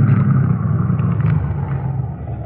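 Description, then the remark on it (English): A car engine rumbles steadily with a deep, low drone and some road noise as the car pulls off the road, holding a fairly constant loudness throughout as the vehicle keeps moving. No one speaks. “Now get the car off the road and stop.”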